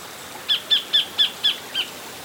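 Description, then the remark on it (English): A tiny kingfisher with a golden-orange breast and bright blue head, perched on a rock by a rainforest creek, gives a quick series of six sharp, high-pitched calls at an even rhythm, the last one slightly softer, heard clearly over a quiet background with no talking. “Look, this tiny little kingfisher has stopped on a rock.”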